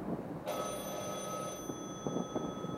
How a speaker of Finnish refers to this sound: Kesken nauhoituksen Jürgensson kuuli alakerrassa puhelimen soivan ja kiirehti vastaamaan